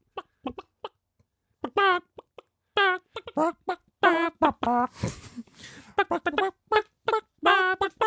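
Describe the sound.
A person clucks like a chicken to carry the bouncy melody of a Christmas song in a game called Can You Cluck It, short throaty clucks in quick rhythmic bursts with brief pauses, fairly loud, a vocal imitation of a hen.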